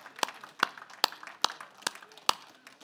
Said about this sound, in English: Just would you give the Lord a clap offering or just thank him in some way right now? Thank you, Jesus.